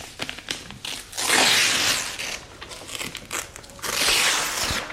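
A damaged sheet of paper is torn up, with two long rasping rips and some crinkly handling and crackling between them, no voices present.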